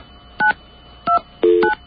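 Three short electronic beeps from a telephone keypad being dialed, each a steady two-tone chirp; the third is longer and fuller than the first two, with no voices.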